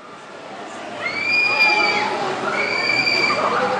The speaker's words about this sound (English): Riders scream their delight on the roller coaster at California Adventure, the sister theme park across from Disneyland. The place is packed for the holidays, which this year have a distinctly Latin flair.